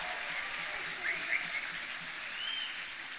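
At a marriage ceremony, a crowd cheers for the couples, applauding steadily in a dense wash of clapping with a few brief whoops and cheers rising above it, holding at an even, fairly loud level throughout.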